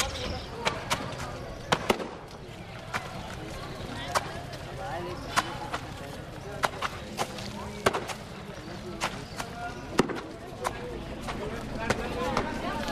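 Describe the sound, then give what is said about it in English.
Wet laundry slaps again and again against stone slabs as a washerwoman washes clothes, sharp smacking hits coming at an irregular pace over a steady bed of outdoor noise and faint background voices. “Maybe she likes getting sprayed a little from the wet clothes banging up against the stone slabs.”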